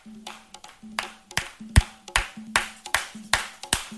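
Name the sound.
audience clapping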